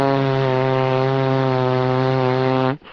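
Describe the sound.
A person blows a long, loud mouth fart, a steady low buzzing raspberry holding one pitch for nearly three seconds before cutting off abruptly. No one speaks.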